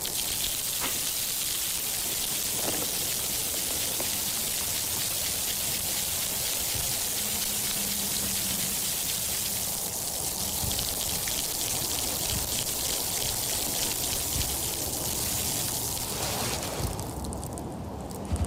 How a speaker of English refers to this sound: that was the sound of this poor ice-covered bush being shaken around a little bit